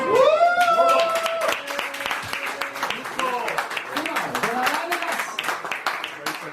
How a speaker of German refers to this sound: Ein riesen Applaus wert.